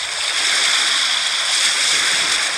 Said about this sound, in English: Beach waves crashing.